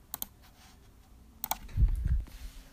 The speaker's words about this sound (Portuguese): Aí ele falou assim: bom, com um clique desse mouse. Pronto. Foi só isso que ele precisou pra acabar com as nossas vidas. Com um clique de um mouse, assim, ó.